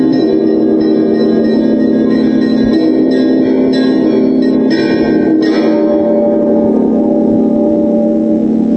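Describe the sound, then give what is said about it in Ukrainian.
A large bell of the cathedral in Rostov rings with a deep, sustained hum and rich overtones, its strikes overlapping into a continuous, loud resonant drone with no voices present. “Звучить найгарніший за звучанням дзвін Катедрального собору у Ростові.”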